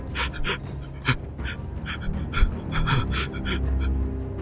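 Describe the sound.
Light, frantic, panicked-sounding breathing in quick, shallow puffs, about a dozen rapid breaths in a steady panting rhythm, soft, over a low rumbling background with no talking.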